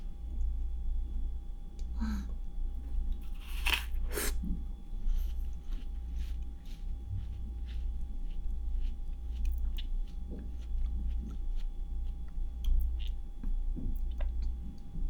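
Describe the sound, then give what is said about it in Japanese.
A refrigerator beside a desk hums steadily at a low pitch without pause, with a faint high whine above it and scattered small clicks and ticks popping in over the constant motor noise. “この音、冷蔵庫の音だ。”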